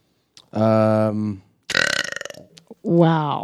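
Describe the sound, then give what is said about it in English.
Three loud burps in quick succession: a long, droning belch, then a rattling, crackly one, and a shorter final belch, with brief silences between them. “That was probably not the strongest. That was not. That was even like a starting. That was an appetizer, I would say.”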